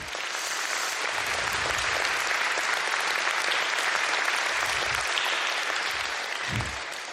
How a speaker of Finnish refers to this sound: Ja voidaan vähän taputtaa.